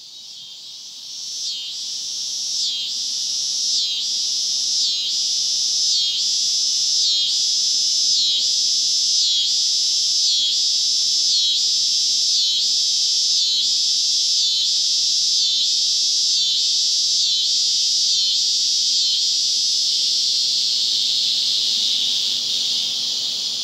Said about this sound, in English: Those are scissor grinder cicadas. They sound like someone grinding scissors on a sharpening wheel. And those are male cicadas, and they're up in the trees, and they live in the soil for years as nymphs and suck on tree roots.